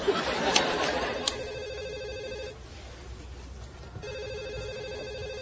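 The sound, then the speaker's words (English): A telephone, left unanswered while calls are being screened, rings in two sustained bursts separated by a short pause, its bright electronic trill fairly clear over a low background hum. “I never have to answer that phone again.”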